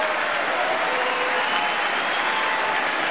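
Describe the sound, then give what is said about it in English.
Steady, dense applause from a large audience cheering on money coming in from the bipartisan infrastructure law, loud and unbroken, with a bright clatter of many hands and a faint undercurrent of cheering voices. “And by the way, I noticed some of you strongly voted against it, or they're cheering on that money coming in.”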